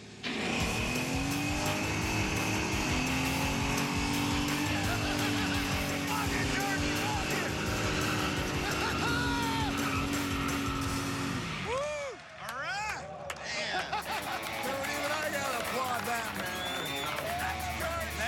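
A truck burnout in a smoke-making contest, its tires treated with a mix of bleach and washer fluid: a loud engine held at high revs with a harsh tire-squealing roar for about eleven seconds, then a brief dip before the engine revs rise and fall repeatedly.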